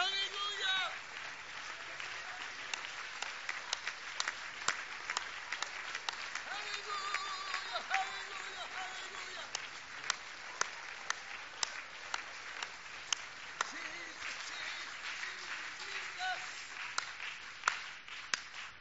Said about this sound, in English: Let's stand, shall we? And let's clap our hands for truth right now.